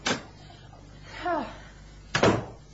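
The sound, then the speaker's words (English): A door is opened to let people in: a sharp latch click, a brief rising creak of the hinge, then a solid wooden thump as it swings against its stop. “Open the door, and I'll escort them in.”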